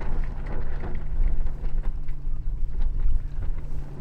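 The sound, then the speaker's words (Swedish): Sailboat sails rustle and flutter in bursts as the boat tacks and heels over, over steady wind rush and a low continuous hum. No one speaks. “Det är när man kryssar. Då båten lutar.”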